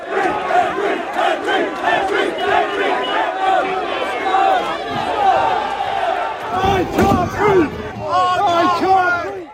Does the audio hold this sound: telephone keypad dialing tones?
no